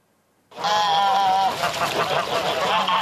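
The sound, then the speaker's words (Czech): A flock of domestic geese honks loudly at a farm in Zakšín, Česká Lípa district, Czech Republic, harsh overlapping calls starting abruptly after a brief silence and continuing densely throughout. “Farma Zakšín na Českolipsku. Kdo si tady husu neobjednal už na jaře”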